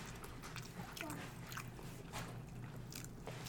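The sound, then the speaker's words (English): Soft crunching as a cat chews crumbs of leftover food, with irregular little bites and crackles repeating over a low steady background hum. “Is he eating crumbs?”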